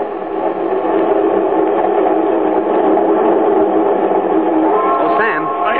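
A passenger train rolls along the rails with a steady, loud rumble and rattle that never lets up, and a brief higher tone rises near the end.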